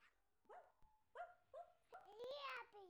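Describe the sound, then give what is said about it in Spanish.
A young child imitates a dog barking when asked how a dog in a drawing goes, giving about five short, high-pitched yips in a row, the last few longer and more drawn out, fairly loud. “Un perro muy tierno.”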